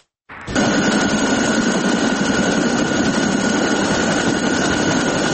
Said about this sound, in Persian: هلیکوپترهای سازمان پیمان اتلانتیک شمالی یا ناتو هنوز هم بر فراز آسمان کابل گشت زنی می کند.